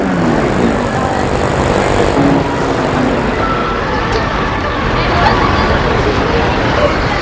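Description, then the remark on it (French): A steady, dense murmur of many overlapping voices of mothers and children outside a kindergarten, with no clear words, over a continuous rumble of traffic that stays loud throughout. “Il y a des mamans et des enfants.”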